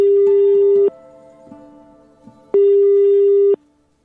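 A telephone ringback tone sounds twice while a call is being placed, each steady electronic burr lasting about a second with a quiet gap of faint hum between.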